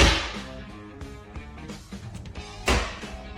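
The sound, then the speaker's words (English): A woman runs up a staircase: a quick, slightly uneven series of thudding footfalls, with a sharper, louder stomp near the end over a faint tonal hum in the background. “That was her trying to run up the stairs.”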